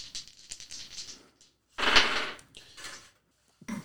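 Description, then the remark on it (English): Brown dice rattle and clatter across a hard surface in a few sharp, clicking bursts, with a louder tumble in the middle and brief knocks at the end. No one speaks. “This is on Demon, which is the brown dice.”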